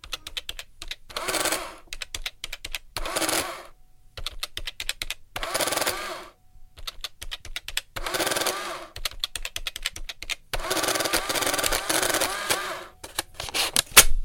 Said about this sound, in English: The absolute number one sound effect we have is an old, it's very satisfying, is an adding machine. Ladies and gentlemen, as a bonus, let's hear the adding machine sound effect.